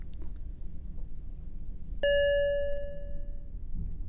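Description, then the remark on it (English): A single bright elevator-style chime rings out once midway through, its clear tone hanging and fading over about a second and a half against a quiet, low background rumble. “Now this is the part where the music usually kicks in, right? Like those chimes?”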